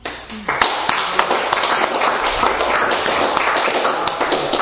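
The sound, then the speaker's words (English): Sustained audience applause for a speaker celebrating 10 years, a dense, steady wash of many hands clapping at once for several seconds, with a few sharper individual claps standing out and no voices on top. “I did not do that for the applause, but I'm grateful for it.”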